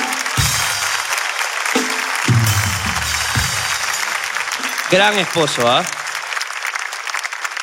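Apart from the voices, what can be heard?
audience applause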